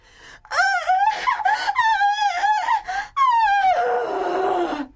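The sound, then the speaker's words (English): From behind a locked door of a room in an attic, a loud, anguished wail rises and falls in long, wavering cries with sharp breaths between, ending in a descending moan, like a wounded animal crying out in rage. “It sounded like a wounded animal crying with rage.”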